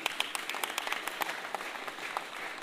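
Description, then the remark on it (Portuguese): A crowd at the Samba da Vela community applauds steadily for a man's daughter, many hands clapping in a dense, continuous patter with a few sharper claps standing out. “Essa é uma salva de palmas, minha preta!”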